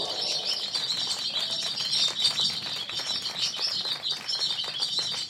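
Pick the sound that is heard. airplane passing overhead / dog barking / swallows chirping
swallows chirping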